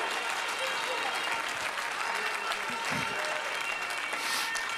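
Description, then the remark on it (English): An audience claps their hands in a steady, dense wash of applause, loud and continuous throughout, with faint voices mixed into the clatter. “Clap your hands and lift your voice and magnify God.”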